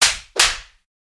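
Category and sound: impact, a slap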